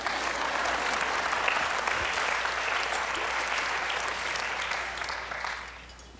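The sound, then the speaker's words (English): An audience claps together in a steady, dense burst of applause that holds for several seconds before gradually thinning and fading out. No one speaks over it. “You can clap.”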